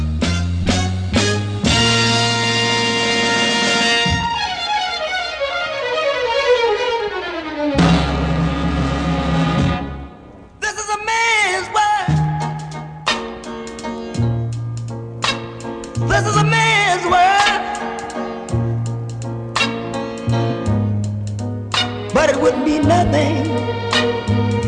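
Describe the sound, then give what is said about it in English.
A UK top-20 soul song plays loudly and steadily, with a deep bass line, sustained instruments and a wavering lead voice riding over the full band, pausing briefly before the arrangement swells again. “This was in the UK top 20 for ….”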